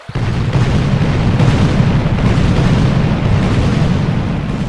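Loud cannon salute fire, 101 salvos that Staś ordered fired in honor of the tsarina arriving by ship at Kaniów on the Dnieper, its booms blurring into a continuous heavy rumble that holds steady for several seconds, with no one speaking.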